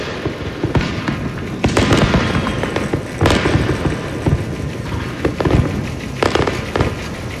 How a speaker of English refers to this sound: If you were up at midnight to celebrate the new year, you probably heard the loud booms of illegal fireworks across Sonoma County.